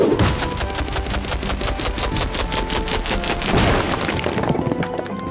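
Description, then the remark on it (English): A loud video-game effect of an opponent throwing a rock: a rapid, steady rattle of sharp cracking impacts lasting several seconds, like stones clattering and splintering, with no voices. “Your opponent throws a rock.”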